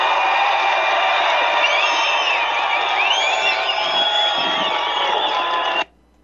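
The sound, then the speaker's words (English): A large rally crowd cheers and whoops loudly and steadily for about six seconds after Congresswoman Marjorie Taylor Greene is introduced, with scattered high-pitched shouts rising above the roar, then it cuts off abruptly. “Now, you know, the president pays attention to crowd reactions to people he introduces.”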